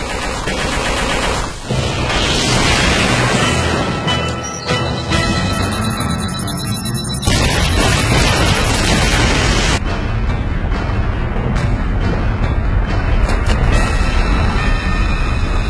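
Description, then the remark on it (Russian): A loud, continuous barrage of blasts and rumbling explosions from a rocket salvo fired on a cave rolls on without pause, a dense roar of rapid impacts that swells and intensifies partway through. No voices are heard. “Залп ракетами! Огонь!”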